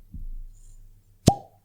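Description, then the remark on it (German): A single sharp pop of a cork being pulled from a bottle that was filled only two weeks before. The pop is fairly loud, preceded by a soft low rumble of handling and followed by a brief ringing tail. “Perfekter Korken.”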